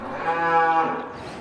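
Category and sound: animal, cow mooing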